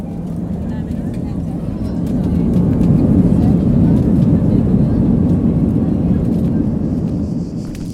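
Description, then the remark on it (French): A steady, loud low roar of airliner engines heard from inside the cabin on a flight to Dubrovnik, a constant droning rumble that swells slightly after the first couple of seconds and holds. “Je vous souhaite déjà un très agréable vol avec nous.”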